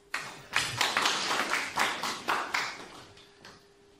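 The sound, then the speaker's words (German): An audience claps together for a few seconds, the applause swelling in loose rhythmic waves before thinning out toward the end, moderately loud with no voices. “So, ich denke, es ist ein Applaus wert als Anerkennung für das, was er heute Abend macht.”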